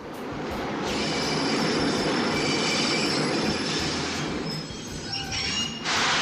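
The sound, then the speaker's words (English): A subway train rumbles in loudly, its wheels letting out a sustained high metallic squeal over the heavy roar before the screech briefly drops away near the end. “We had been waiting for the train this week. Well, here it comes.”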